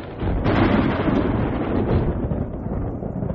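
A sudden storm breaks as rain pours down, with a loud, deep rumble of thunder and rushing wind, swelling in after a brief moment and roaring steadily for about three seconds. No voices are heard.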